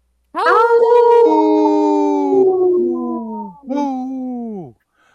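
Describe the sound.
A person imitates a wolf howl on a radio show: one long, loud, wavering howl that slowly falls in pitch, then a brief second howl rising and sliding down, with no other sounds.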